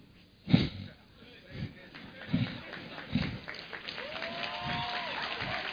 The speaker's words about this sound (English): Only the women are clapping.